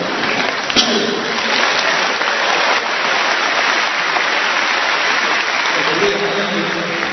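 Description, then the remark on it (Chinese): A large audience at a live opera singing performance claps steadily for several seconds, a dense, continuous wash of applause that stays loud throughout, with faint voices mixed in toward the end; the audience applauds on the performer's agreed cue of a cough. “所以咱们定一个暗号，是我一咳嗽你就鼓掌，我们俩全起好，来吧，唱这段蛋糕。”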